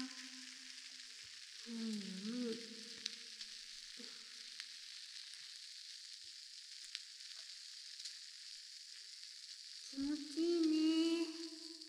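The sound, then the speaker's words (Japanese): Carbonated shampoo fizzes with a steady, bright crackling hiss throughout, punctuated by a few soft squelchy swirls and a louder tonal rubbing burst near the end. “炭酸の音って気持ちいいもんね。”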